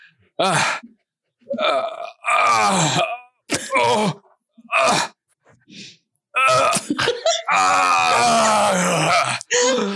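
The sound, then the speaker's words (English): A man's voice imitates straining on an indoor toilet in a bathroom, with a string of grunts, groans and wet, sputtering fart noises in uneven bursts, loud, building to a long strained push near the end. “Great, great, great Grandpa White farts and takes a shit in the bathroom.”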